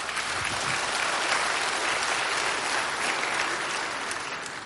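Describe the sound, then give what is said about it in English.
A sustained round of audience applause, many hands clapping together in a dense, steady wash that holds for several seconds before easing slightly at the end. “As I've said before, heaven, yeah, it's worth clapping for. Go ahead.”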